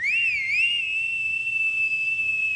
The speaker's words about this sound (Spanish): Silbó una vez hacia la casa de enfrente. Y al cabo de un rato, volvió a silbar.